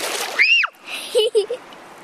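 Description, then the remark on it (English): A short burst of splashing water at the start as a child tries to splash Woody, followed by a high, rising-and-falling child's squeal and a few brief vocal sounds. “Are you trying to splash Woody?”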